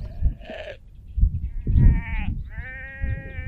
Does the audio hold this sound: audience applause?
no